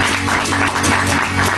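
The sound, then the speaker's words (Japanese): A crowd claps steadily for the whole moment: a dense, crackling wash of many hands with no pause or build, fairly loud, and no voices on top. “リズムちゃんに大きな拍手。”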